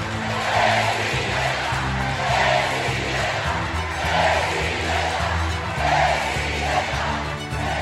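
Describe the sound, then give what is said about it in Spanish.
A large crowd of Morena party supporters roars and shouts continuously with cheers and boos as Claudia Sheinbaum and Adán Augusto López join them, the noise swelling in regular waves every second or two like rhythmic chanting, blending into one dense, loud wash of voices. “destacó la presencia de la jefa de gobierno de la Ciudad de México, Claudia Sheinbaum, y la del secretario de Gobernación, Adán Augusto López, quienes entre gritos aprobatorios y abucheos se congregaron entre los morenistas más activos.”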